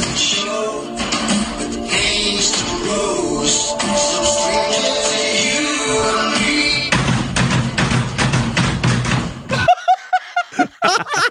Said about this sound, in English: he has exactly the right number of doors and drawers and a microwave to make it a perfect roll like that in the song